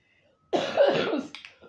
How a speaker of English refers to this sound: Excuse me. Y'all, I gotta get rid of this little funky-ass cough.